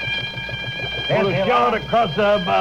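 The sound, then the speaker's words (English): A ship's alarm rings with a steady, high-pitched tone, clearest in the opening second, while a man speaks over it and his louder voice soon masks the ringing. “That's the alarm, Captain.”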